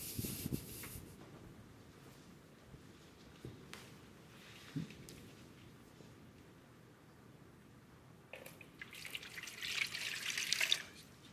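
Water splashes and trickles, with scattered drips and a brief louder pour near the end, as water is poured over someone's feet and drips into a basin during a foot washing.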